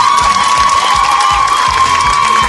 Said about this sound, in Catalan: Per tant, un altre aplaudiment per a aquestes concursants, sisplau.